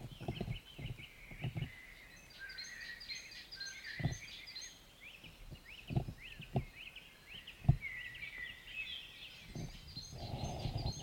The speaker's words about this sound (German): Ich bin ja jetzt hier abends oder später Nachmittag. Ne? Die Sonne scheint hier gerade rein. Und wir hören mal ganz kurz, was hier jetzt noch vogeltechnisch los ist.